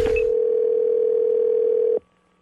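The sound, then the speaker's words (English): A steady, loud telephone dial tone hums continuously for about two seconds after a brief click of a handset being picked up, then cuts off abruptly, leaving faint line noise, before a prank phone call to a small catering company. “It's Gavin's phone scam on the wake-up call.”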